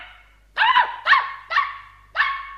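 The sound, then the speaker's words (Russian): A small dog named Bimbo yapping loudly, four sharp, high-pitched yaps in quick, slightly uneven succession, with no talking around them. “Малыш держал Бимбо на руках, а тот лизал ему щеки, громко тявкал, обнюхивал уши.”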